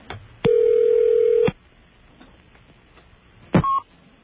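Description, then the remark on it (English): A single steady telephone ring tone lasts about a second, followed after a pause by a short, sharp touch-tone beep, both clear over faint line hiss, with no talking. “What do you suppose that beep meant? I only hit a touch tone.”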